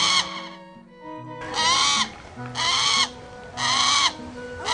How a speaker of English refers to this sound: It is the sound of a hawk.